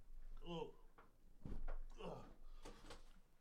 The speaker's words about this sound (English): Funny story. I'm adjusting my chair.